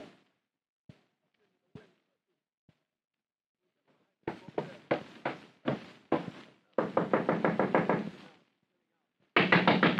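A few isolated raps give way to loud pounding on a door, hammered in rapid bursts with short pauses, growing more insistent toward the end.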